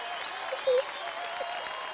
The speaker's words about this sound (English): I'm gonna give it a round of applause. I'm gonna have to.